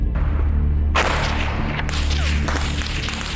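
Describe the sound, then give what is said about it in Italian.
Sharp, cracking bursts of automatic rifle fire ring out twice over a steady low rumble, the shots harsh, each burst trailing into a noisy wash. The gunfire is among houses and fields during an urban battle in Loico. “Colpi dei fucili automatici fischiano tra le case e i campi. Poi un'esplosione.”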